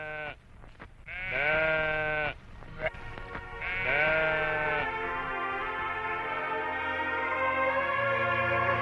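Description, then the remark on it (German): A sheep in the bushes bleats loudly, several wavering, drawn-out calls in a row with brief pauses between them, the last one long and sustained. “Und als er sich umsah, sah er im Gebüsch ein Schaf.”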